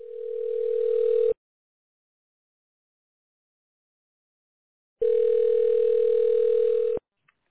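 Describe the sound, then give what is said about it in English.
A steady, mid-pitched telephone on-hold tone sounds twice while waiting on hold after calling Mike Scott Plumbing, each beep lasting over a second, separated by about four seconds of silence, with no voices. “Please hold until the next team member's available.”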